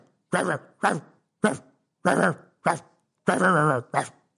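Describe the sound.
A voice imitates a dog barking in a song about animal sounds: seven loud, woof-like barks in an uneven rhythm, the sixth longer and drawn out, with short silences between each.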